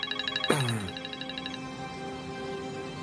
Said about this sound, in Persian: چرا بهت زنگ میزنم گوشی تو جواب نمیدی؟ کجایی؟ دخترم، من ظرف میشستم، برای همین بر نداشتم.